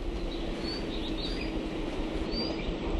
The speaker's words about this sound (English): Birds chirp outside the collection of low buildings that form the main science and conservation organization on the islands, the Charles Darwin Research Station.